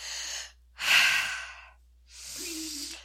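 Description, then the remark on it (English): Three slow, airy breaths drawn in and pushed out by a person demonstrating breathing, each a soft rushing hiss with short pauses between them. No talking. “Breathing. That's right.”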